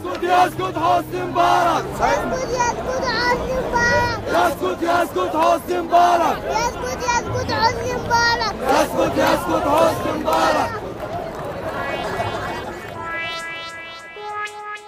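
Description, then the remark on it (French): A large crowd of protesters in Tahrir Square, Egypt, chants an anti-Mubarak slogan started by a child, in loud, rhythmic unison, voices rising and falling in repeated bursts, with a brief high tone sounding near the end. “Oui, comme celui-ci, qui scande un slogan anti-Moubarak repris par la foule.”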